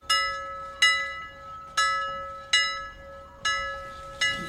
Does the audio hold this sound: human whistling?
no